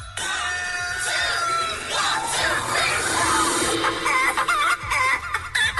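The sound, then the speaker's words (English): A loud techno-style remix made from clucking chicken sounds, with chopped, warbling clucks layered densely over a steady electronic beat that turns choppier and more rhythmic toward the end. “Oh, this is like that's like the techno version. Remix?”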